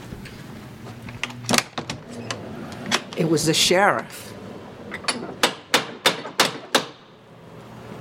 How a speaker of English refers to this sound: They were having a meeting, an abolitionist meeting here, and someone who was in the house was enslaved. And there was a knock on the door. This door.